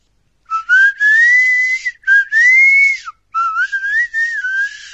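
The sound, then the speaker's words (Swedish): Proto Man's (Blues) whistle from a Mega Man game, heard on Pluto's stage just before the boss as the music stops: a clear whistled melody in three sliding phrases, each tone gliding up and down with a breathy edge, played alone with short pauses between phrases and no talking. “Precis innan bossen så hoppar man ner och musiken tystnar och man hör en mycket bekant vissling.”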